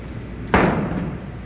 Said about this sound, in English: Someone is knocking on the door